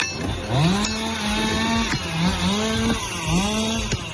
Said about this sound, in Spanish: Es el ruido de las motosierras, de los picos y las palas que han estado trabajando durante toda la noche, personal terrestre que se ha afanado para intentar acabar con esas llamas, sobre todo que no lleguen a los barrios más cercanos